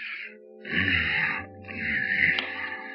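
A man snoring: two long, raspy breaths in a row, each with a low rattling buzz underneath a hissy rush of air, fairly loud and with no talking.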